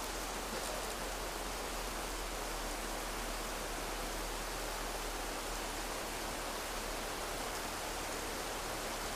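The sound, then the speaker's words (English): Steady, even rainfall hisses continuously for the whole stretch, a soft, dense wash of droplets with no talking and no change in intensity. “Don't focus on the rain.”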